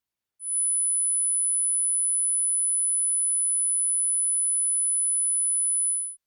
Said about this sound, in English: 10,000 hertz.